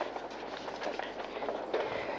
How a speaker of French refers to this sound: Des bruits de pas. Encore des bruits de pas.